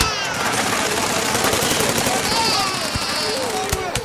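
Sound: explosion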